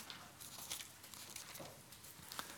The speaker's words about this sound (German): Wir sind in Apostelgeschichte. Lasst uns ein paar Seiten blättern zu Galater.